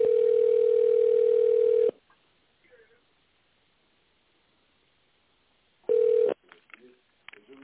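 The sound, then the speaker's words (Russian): A telephone ringback tone while a call to the Lekotsentr equipment company connects to an operator: one steady mid-pitched beep lasting about two seconds, a long silence, then a second beep cut short as faint voices begin. “Соединяем вас с оператором.”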